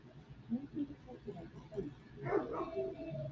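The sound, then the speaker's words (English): A dog barks in the background, a few short yips and woofs with a louder burst near the end, while a person keeps talking over it. “got the dog barking in the background.”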